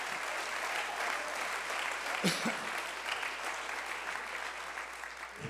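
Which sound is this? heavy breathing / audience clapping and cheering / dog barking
audience clapping and cheering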